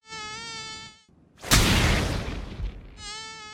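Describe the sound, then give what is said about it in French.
A high-pitched mosquito whine hums steadily, cuts out, then a loud broad smack of hands swatting at it with a rushing decay hits before the thin buzzing returns. “Viens là, saloperie de moustique de tes mains!”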